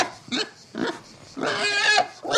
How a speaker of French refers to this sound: Du trou sort un cochon, puis un autre, grognant comme des fous. Ils se jettent sur un baquet plein de soupe entre les jambes des fillettes, dévorent leur plâtré, hoquetant, ignoble et crasseux.